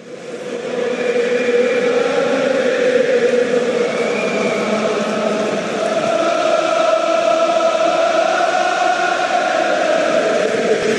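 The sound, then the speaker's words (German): A huge stadium crowd of about 20,000 Irish football fans sings together near the end of a match, with Ireland trailing 0-4, in a loud, sustained chant, thousands of voices blending into a steady wall of sound with slowly shifting melody and no break. “Die Iren lagen da kurz vor dem Ende mit 0-4 zurück und 20.000 Fans haben dann ein Lied angestimmt.”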